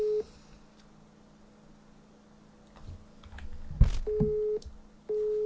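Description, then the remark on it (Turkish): A steady electronic ringing tone repeats in long beeps separated by pauses, with faint clicking and tapping sounds in between: the ringing of an outgoing video call being placed, waiting to connect. “Görüntülüyü arıyorum.”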